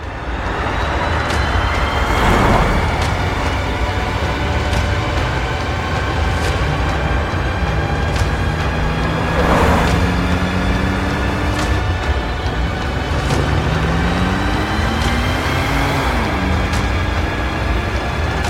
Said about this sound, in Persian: رضا و نعیم و صدرا توی جاده حرکت میکنن.